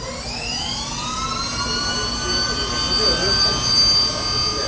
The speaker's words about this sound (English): That's a 40-kilowatt motor humming away in the background there.